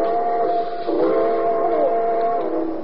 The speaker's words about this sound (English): Train number 31, the Cinder Bucket, now leaving on track 3. Board!